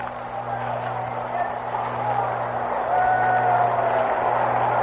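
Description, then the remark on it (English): A baseball stadium crowd of about 12,000 at a Dodgers game murmurs in a dense, continuous wash of indistinct voices, growing slightly louder partway through, with a steady low hum underneath and a few faint high tones drifting by. “A crowd of about, maybe 12,000 on hand here.”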